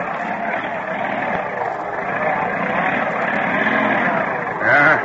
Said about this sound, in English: 40 minutes later, as the school bus plows into a bad drift... Sounds like something broke. Are we stuck?